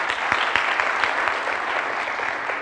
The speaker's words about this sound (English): This is awesome. It's so nice to have people clap when I haven't even done anything.